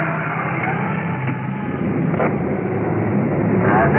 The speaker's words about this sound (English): Well, I can hear their sirens, so we'll just stand by. We've pulled over the curb to allow a big pumper truck to roll past us. They're rolling code 3, that's up there, nice and dark.